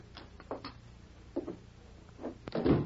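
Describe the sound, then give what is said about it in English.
A door opens and closes, with a few light clicks and rattles of the latch followed by a heavier thud as it shuts. No one speaks. “We'll lock the door down.”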